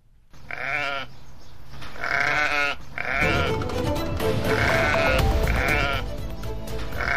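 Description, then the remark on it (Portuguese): Several sheep bleat repeatedly and loudly, overlapping calls in quick succession, with a rising rumble of outdoor background noise or movement joining midway; the sheep are used to maintain a meadow naturally. “Ao também introduzir aqui a variável ovelhas, elas estão a fazer aqui um método natural de manutenção do prado, pronto, e também ao mesmo tempo enriquecem o solo, não é?”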